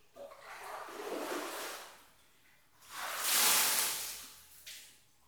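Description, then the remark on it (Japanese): Two pours of water rinse soap suds off a body before a bath, a softer splashing gush followed by a louder, brighter rush after a brief pause, with a short trailing splash at the end. “泡も全部流れました。”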